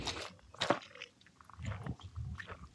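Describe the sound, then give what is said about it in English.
Someone takes a drink of water: a few wet gulps and swallowing clicks in an irregular rhythm, fairly quiet, with no talking. “Sis had to drink some water because I told you I had a couple drinks earlier, so my throat is a little dry.”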